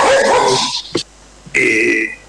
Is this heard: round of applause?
no